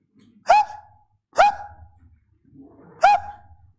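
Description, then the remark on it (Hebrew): A person imitates a dog begging for food, barking with three short, loud woofs, the first two close together and the third after a longer pause. “תן לי, הוא אומר, תן לי, הב, הב, הב, הב, תן לי, תן לי, תן לי.”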